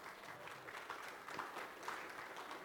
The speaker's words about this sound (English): She's made it this far, so that's a round of applause for her.